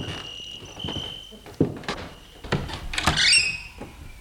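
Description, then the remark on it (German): An unlocked door opens as people go inside, with a few sharp clunks and a creaking scrape, while a steady high chirp of crickets continues in the background. “Gehen wir rein, die Tür ist offen.”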